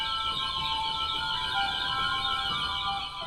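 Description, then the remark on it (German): An organ's nightingale stop sounds a steady, shimmering warble of high, bird-like twittering, continuous and fairly loud throughout, with no voices. “Es gibt also eine Nachtigall, ein Vogelgezwitscher. Das klingt wie eine Schar Spatzen.”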